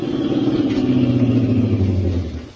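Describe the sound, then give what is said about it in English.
A car engine rumbles steadily, its low hum dropping slightly in pitch as the car, flagged down by a hitchhiker walking toward the main highway out of town, slows, then quieting as it comes to a stop. No one speaks. “As I hiked along, I kept thumbing cars. The fourth one slowed down and stopped.”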